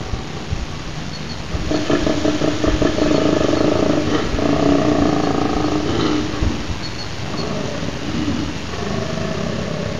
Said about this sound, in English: I mean, it does sound like a bit of an angry sheep crossed with a motorbike, but this sounds like a beast. Christina Catterfield sent this in from Western Brisbane, and yes, it's a koala.